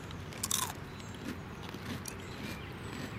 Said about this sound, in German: Knuspert und kracht wie Baumchips. Schmeckt aber ein bisschen anders. Wie denn? Haben Sie das Gemüse rausgeschmeckt von dem, was Sie genommen haben? Also ich denke, ich habe ein Rotes genommen, das ist ein Rande.